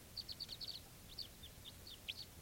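High, thin bird chirps repeat in a quick run of about six notes, then come more sparsely, with a few short whistled calls over a faint low rumble. No one speaks.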